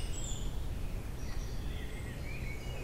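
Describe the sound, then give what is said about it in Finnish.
A song thrush sings thin, high phrases in the darkness of a northern summer night, faint against a steady low rumble of outdoor background noise, with no one talking. “Pohjolan kesäyttiin satakieli, niin kuin sitä myös sanotaan. Ja moni sotkeekin sen satakieleen.”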